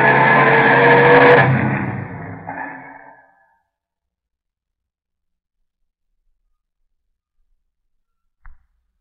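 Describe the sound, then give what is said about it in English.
A car speeds off in a hurry, heading down to the docks, its engine roaring loudly at first and then fading quickly, leaving silence broken only by a brief click near the end. “Let's drive down to the docks anyway. We can get there in 10 minutes if we hurry.”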